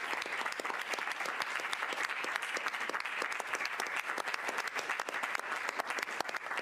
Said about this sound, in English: Oh, let's everyone clap for Gary because he loves our country.